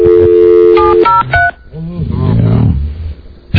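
A quick series of loud electronic telephone dialing tones beeps at the start, followed by a low, growling roar-like sound with background murmur.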